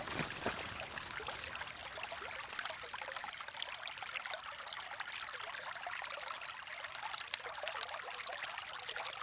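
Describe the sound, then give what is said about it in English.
A small waterfall on a stream running through a farm splashes steadily, a continuous bright rushing and trickling of water with no voices over it, on a rainy morning, the first rain after a few weeks of drought. “If I got closer to it, we could probably hear it coming through here. Yes, you can. Just over here, look, there's a lovely little waterfall there.”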